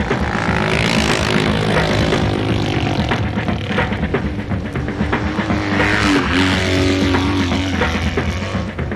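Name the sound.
motorcycle engine running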